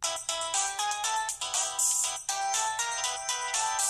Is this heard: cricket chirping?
no